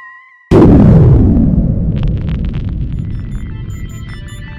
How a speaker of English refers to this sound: Are you going to put a sound effect of an explosion at the end of the podcast?